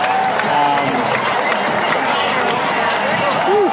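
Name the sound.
crowd cheering and applauding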